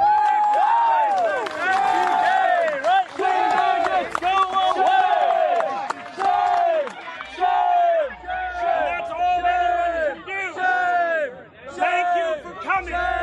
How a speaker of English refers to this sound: And he gets driven out because people were yelling so loudly.